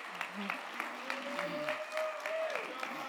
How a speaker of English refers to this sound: So if you're a grad in here, I know I've seen a few already, I'm going to invite you to come on up on stage. And we just want to acknowledge you. Let's welcome them with a round of applause.